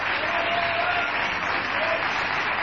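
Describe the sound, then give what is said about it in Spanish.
A crowd gives an ovation for Patricio Barton, a steady, dense wash of clapping that holds at an even, loud level throughout, with no pauses and no voices standing out. “Gracias por estar aquí y vamos a extender la ovación para propinársela nada menos que a Patricio Barton.”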